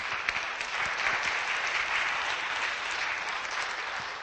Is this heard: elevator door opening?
no